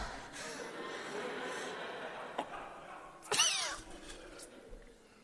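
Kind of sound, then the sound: animal, cat meowing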